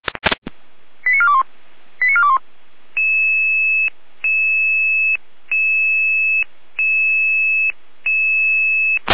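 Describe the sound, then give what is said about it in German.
Electronic radio alerting tones alerting the Möschlitz fire brigade to help the rescue service carry a patient: a few quick chirping bursts, then a steady pattern of long, loud two-pitch beeps repeating about five times with short pauses, no voices. “Einsatz, Feuerwehr Möschlitz, geht Möschlitz am Bach 29, Tragehilfe, Rettungsdienst. Leiste dir eine Alarmierung.”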